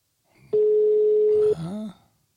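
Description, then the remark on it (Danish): A phone line rings out with one steady, loud, clear ringback tone lasting about a second as a call is placed to a mother, followed by a brief burst of a voice on the line. “Jeg ringer lige.”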